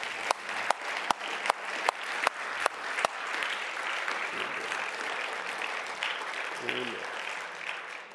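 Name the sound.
audience clapping hands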